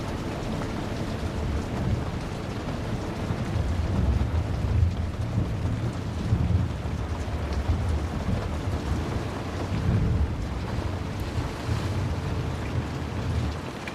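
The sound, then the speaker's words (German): Steady rain pours down while deep thunder rumbles roll through at intervals, swelling around a few moments before fading back into the constant hiss of the downpour. “Während du in dem gemütlichen Sessel sitzt und den Sturm draußen beobachtest, spürst du, wie eine angenehme Müdigkeit sich in deinem Körper ausbreitet.”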